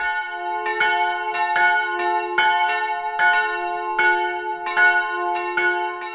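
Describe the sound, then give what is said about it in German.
A peal of bells in the yard of a bell foundry in Gescher, Germany, set ringing during a guided tour, rings steadily, strikes overlapping in a quick repeating rhythm with a sustained low hum beneath, loud, no voices. “Bei Führungen bringt er erst einmal das Geläut auf dem Werkshof in Schwung.”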